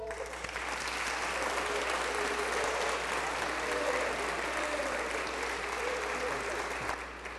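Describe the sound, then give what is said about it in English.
An audience claps steadily for several seconds to welcome two new children into the family of God, a dense, even wash of applause that holds at a constant level before tapering slightly at the end, with faint voices mixed in. “Hey, let's give another round of applause for these kids.”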